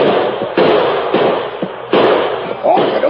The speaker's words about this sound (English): Fraser gave the order to open fire. Pour it into, man!